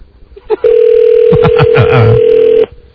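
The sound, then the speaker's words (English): A single long ringback tone from an outgoing call to a cell phone, steady and fairly loud for about two seconds, with faint murmuring voices underneath partway through. “He's not answering his phone.”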